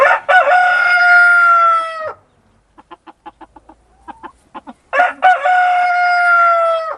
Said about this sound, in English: As promised earlier, I'll be speaking shortly with the South Australian Council that's changed the rules around the keeping of roosters. Now, is this a sound that you love or you hate?